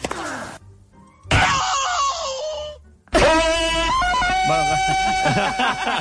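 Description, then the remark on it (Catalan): A tennis player's loud, strained scream while hitting, in two long drawn-out bursts separated by a brief pause, forceful, with the pitch sliding and wavering through each cry. “Hi ha hagut un crit de tenis, m'ha semblat.”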